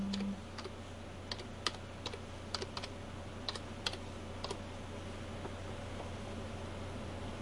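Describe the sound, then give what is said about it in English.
Irregular bursts of computer keyboard typing, sharp clicky keystrokes coming in quick clusters with short pauses, fairly quiet over a steady low electrical hum. “Where's the damn keyboard?”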